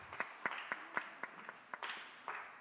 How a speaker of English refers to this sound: please a round of applause even as they come.